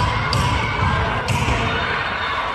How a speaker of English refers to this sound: The sound of protest in Phoenix, where people banged on doors and windows at the state Senate building.